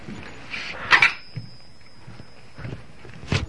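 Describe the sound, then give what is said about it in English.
A drawer slides open with a clattering rattle as someone looks for a key, followed by a faint ringing hum, a few soft bumps, and another sharp knock near the end. “Look in the drawer.”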